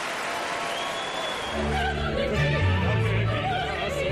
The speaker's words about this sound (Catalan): Ai, mira, la gent s'ha posat d'empeu per aplaudir-te avui.